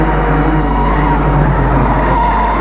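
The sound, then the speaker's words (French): A car drives fast, overtaking other cars, its engine and road rumble loud and continuous, with a constant low hum and no pauses. “Ta voiture, elle demande que ça. Et il roule, il roule.”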